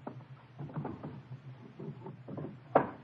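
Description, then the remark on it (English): The bottom drawer of a wooden dresser scrapes and rattles as it slides open while someone gets a gun from it, then shuts with a single sharp knock near the end, over a low steady hum with no talking. “It's in the bottom drawer of the dresser. I'll get it.”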